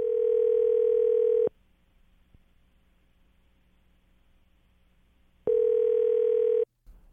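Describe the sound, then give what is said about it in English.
Two bursts of a steady electronic ringback tone on a phone line, each lasting about a second, separated by a long quiet pause, heard clearly and alone as an outgoing call rings. “The phone's actually ringing, so be real quiet, okay?”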